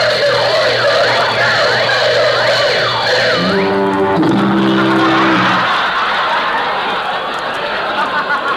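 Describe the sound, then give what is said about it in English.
A burglar alarm goes off with a wailing tone that rises and falls several times, then gives way to a steady, low buzzing ring, while a crowd laughs and chatters loudly throughout. “Now I'll be able to buy a louder burglar alarm.”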